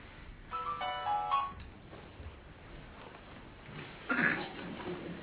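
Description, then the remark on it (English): A mobile phone ringtone chirps a short melodic phrase for about a second at moderate volume, followed by quiet room noise and a brief cough or throat-clearing near the end. “If your phone has flight mode, then switch it on. If not, just turn it off.”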